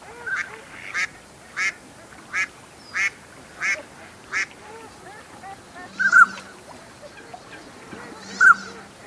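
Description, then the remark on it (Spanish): A female mallard gives a steady run of about seven evenly spaced quacks, then two louder, harsher calls after a pause, against a soft background of wetland birds. “Dos fochas disputan a gritos entre los carrizos sobre un horizonte sonoro formado por las risas de las hembras de Ana de Azulón.”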